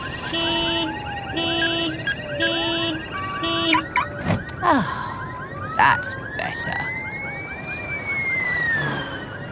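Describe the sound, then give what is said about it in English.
A police siren wails with rising and falling tones, opening with a rapid pulsing yelp and then a long sweeping wail, fairly loud, while people speak briefly over it. “Oh, seems the police siren wasn't for us after all.”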